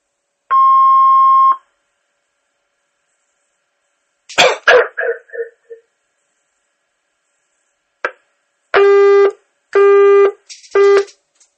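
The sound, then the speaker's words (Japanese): An answering machine beep on a fax line called from a mobile phone: one steady, mid-pitched electronic tone lasting about a second. After a pause come a rough, noisy burst, a click, then three loud, lower electronic tones in a row. “ピンとなりましたら、お名前とご用件をお話しください。”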